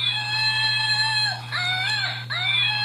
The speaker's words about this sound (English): We've got one of the famous screaming monkeys. You know, it's pretty annoying and loud.